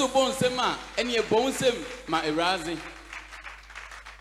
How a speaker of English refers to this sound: If you want to clap, clap for Jesus.